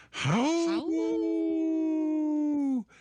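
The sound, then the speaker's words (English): Lucy, a cat in a radio studio, bursts through the door and lets out a loud, drawn-out yowling scream, starting with a harsh rising cry that breaks briefly, then holds a steady, piercing wail for a couple of seconds before cutting off. “It's funny, Lucy, the cat here in the studio, busted through the door and started, I don't know, it's not a howl, it's kind of a scary scream that she does now, but she was right on cue.”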